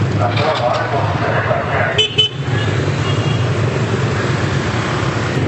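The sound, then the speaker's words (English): Dense street traffic roars steadily, with engines rumbling, a brief honk near the middle, and a crowd's murmur blending into the constant noise, at a city street with no traffic light that the speaker has to cross. “See, this is a traffic. This is what I got to cross right now.”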